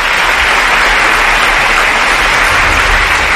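A large crowd applauds loudly and steadily, a dense wash of clapping that holds at full strength without a break: a long standing ovation as Carlos Mazón, president of the Valencian Community, takes the stage at a Partido Popular event to sign housing measures.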